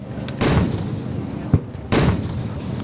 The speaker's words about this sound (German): Artilleriefeuer der israelischen Armee gehört auf dem Gelände des Nova-Festivals bei Re'im zu den Geräuschen, an die man sich nicht gewöhnen kann.